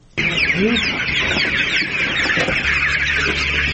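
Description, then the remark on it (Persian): A dense, continuous chorus of hundreds of white chickens clucking and peeping at once, filling a lit poultry-rearing hall at a women-run farm in Tatamdara, Parwan province, Afghanistan, with a steady low mechanical hum underneath. “در زیر نور برق صدها مرغ سپید رنگ به چشم می‌خورد که در حرکتند.”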